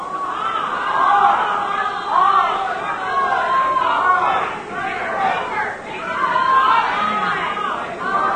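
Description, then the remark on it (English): A crowd of many voices shouts out at once in an overlapping, continuous clamor, swelling and dipping in waves, with no single voice standing out, as a game audience yells out an answer, 'goobers'. “They're still yelling goobers.”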